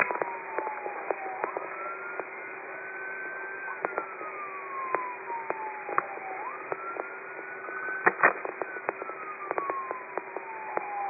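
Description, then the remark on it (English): Tinny, band-limited transmission from an open microphone on Car 1's radio, carrying the hum of the moving vehicle, with a wailing siren rising and falling through it and scattered clicks and pops of static, steady and moderately loud throughout. “Car 1, you have an open mic.”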